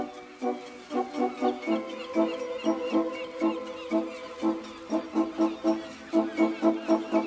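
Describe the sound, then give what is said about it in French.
A noisy crowd of gulls squabbling, their harsh, repeated calls overlapping in quick bursts, fairly loud with no pauses, like a busy colony in full cry, with the Crozon peninsula in view. “Ah oui, là ça se bagarre un peu, c'est au toit de là que je m'y mouette, hein, en quelque sorte.”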